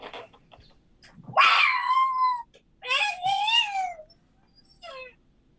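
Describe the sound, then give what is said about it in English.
A person imitates a fisher cat's screech with two drawn-out, wavering wails followed by a short third cry, loud with quiet gaps between. “That sounds a little bit like a fisher cat.”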